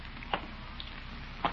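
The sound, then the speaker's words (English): Light rain sprinkles in a steady, soft hiss, with two sharp little taps standing out a second or so apart. No voices. “But it's beginning to sprinkle.”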